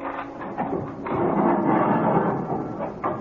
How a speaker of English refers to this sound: God! Open Fräulein Cavell's cell door.